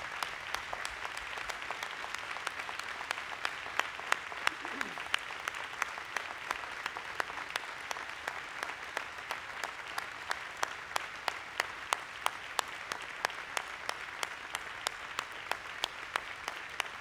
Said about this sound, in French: Congratulations, number 10. Félicitations, 10 enfants, numéro 10. Alors saluons-le, applaudissons-le fortement.